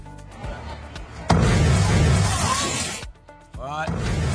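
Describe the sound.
A sudden, loud explosion at an apartment complex in Washington State, as firefighters inspect the building after reports of smoke, bursts in with a deep rumbling boom and crackling debris that roars for a couple of seconds, sending flames from an open door, then fades as voices cry out afterward.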